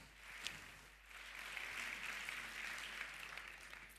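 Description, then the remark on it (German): Steady audience applause at a congress, welcoming the presenters of a talk on how social media companies define morality, with dense, crackling hand claps that swell after the first second and hold at an even level, with no voices over it. “Also gebt einen warmen Applaus.”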